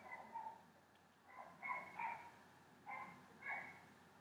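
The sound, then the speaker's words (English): A dog barks, a string of muffled yaps coming in short pairs and clusters over a quiet background, with no one talking. “the dog will start barking and going apeshit.”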